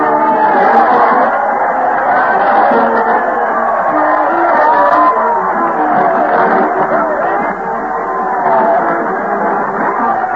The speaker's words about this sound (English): Crowd cheer as Fred Allen leads the parade to the old town hall. Fred's conducting the band with a big sword, followed by those dull blades of the boards, the mighty Allen art players. Let's join the shouting throng.